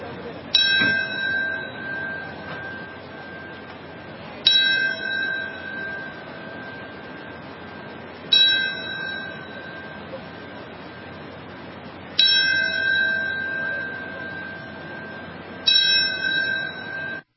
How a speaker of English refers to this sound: Tenth anniversary of September 11th, there were bells that were rung. You could hear that there, the North Tower bell. That's what you were listening to.